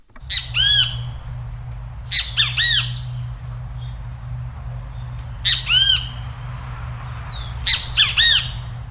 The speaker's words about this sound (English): That bird is a great kiskadee, so named for its three-syllable call.